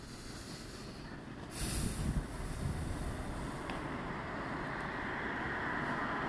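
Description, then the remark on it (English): A steady roar of passing traffic, with one vehicle swelling into a louder whoosh early on before the wash of road noise settles back to an even rumble. No voices. “Send in more cars, yep. A little louder.”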